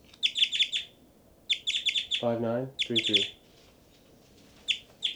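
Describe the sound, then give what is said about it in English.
Two birds call back and forth, with call types labelled 5-9 and 3-3: bursts of rapid, high-pitched chirps repeat several times, answered twice by a lower, harsher, buzzy call, with short pauses between exchanges. “and these are the birds, and that was 3-3 there, 3-3, 3-3 at 5-9, both birds, 5-9, 3-3, 5-9, 5-9, 5-9, 5-9, 3-3 responding, 5-9, 5-9 and 3-3.”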